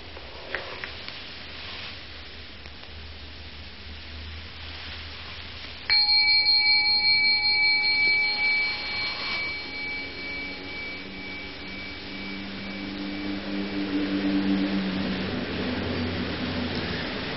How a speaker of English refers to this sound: You see, the bell came out of nothing, floated off, off, off, off, and then stopped being a sonic echo and became a memory, which is another kind of echo, a wake.